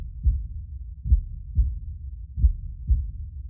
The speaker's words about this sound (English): And you feel a reverberation within yourself. It's your heartbeat. And with each beat, vibration spread out, pulsing from the center.